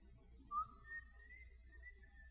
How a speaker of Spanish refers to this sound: Si Dios no te dio el canto, no te preocupes por cantar. ¿Ok? Pero si Dios te dio el chiflido, chifla bien.